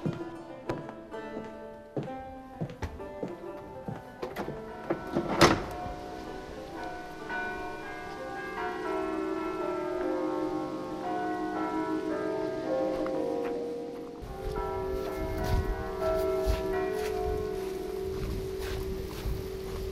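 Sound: church bells ringing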